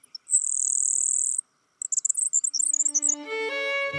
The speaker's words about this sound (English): Today, rather than the roar of cannons, fields like Antietam are filled with the songs of blue grosbeaks. Eastern meadowlarks, and of course, grasshopper sparrows.